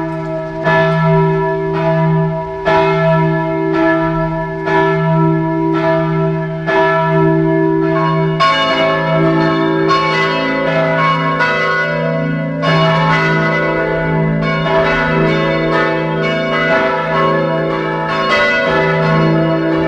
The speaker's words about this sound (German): Es ist 12 Uhr. Sie hören die Glocken der Pfarrkirche St. Michael in Bad Eisenkappel in Kärnten.